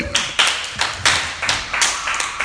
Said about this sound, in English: That's very good. Clap for her. That's good.